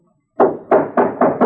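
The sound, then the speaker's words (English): Five firm, loud knocks on a wooden door in quick, steady succession, heavy, with a dull hollow thud to each blow and no voices. “Open the door, or I'll break it in.”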